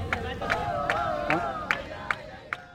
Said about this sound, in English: After these people clapping and dancing in the background move on, we'll talk to him about why he sticks with it and why he remains hopeful.